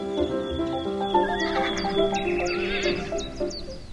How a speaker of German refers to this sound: So, jetzt stehen wir hier in der Pferdekoppel und die Pferde schauen schon alle ganz neugierig. Das sind schon ziemlich viele. Wie viele denn genau? Wir haben im Fahrbetrieb 28 Farbpferde.